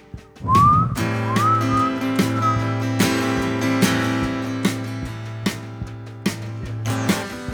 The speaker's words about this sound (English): I can kind of whistle.